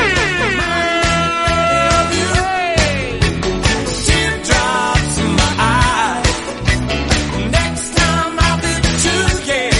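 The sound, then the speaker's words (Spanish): A loud, blaring siren horn sounds with wailing tones that rise and fall, layered over busy, rhythmic music that fills the whole stretch without a break. “Un fuerte abrazo y que suene esa sirena.”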